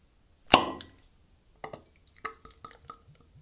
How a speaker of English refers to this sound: Pretty nice beer. All right, so let's pour the beer.